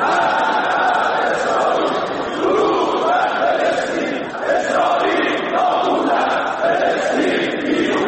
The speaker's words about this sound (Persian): در حالی که جنگ همچنان میان اسرائیل و حماس ادامه دارد، نمایندگان مجلس شورای اسلامی جلسه ی روز شنبه خود را با شعار مرگ بر اسرائیل آغاز کردند